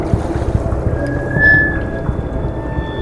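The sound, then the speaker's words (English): Steady, irregular lapping of water against a boat hull, low and rumbling, with a faint sustained high tone drifting in the background. No voices. “I hear a constant lapping. The sound rumbles through the drum boat.”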